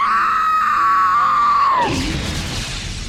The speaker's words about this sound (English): She found the chamber, rushed inside, and screamed out in horror at the sight of her burning child interrupting the ritual.